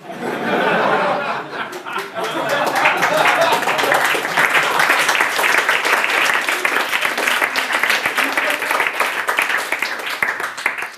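A large crowd bursts into sustained applause, dense clapping filling the room for about ten seconds with a few scattered laughs mixed in, staying loud and steady throughout.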